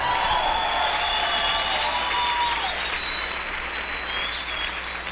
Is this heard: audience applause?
yes